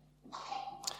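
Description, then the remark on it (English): A single sneeze, fairly faint: a breathy rush of air that ends in a short, sharp burst, with no talking over it. “Bless you.”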